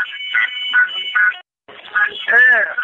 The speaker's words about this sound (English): The protest was very civil, asking for regime change, he said. He held up the phone when the crowds began to cheer and beep their car horns.